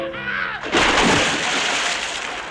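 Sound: sea water splashing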